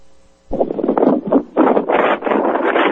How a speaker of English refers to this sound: Yeah, I'm outside walking, so it's a little windy.